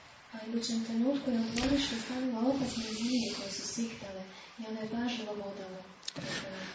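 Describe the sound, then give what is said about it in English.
A voice imitates snakes hissing, producing drawn-out breathy hisses mixed with voiced tones, running almost continuously with a few brief pauses. “And the next moment she got dangerous snakes in her courtyard who were hissing.”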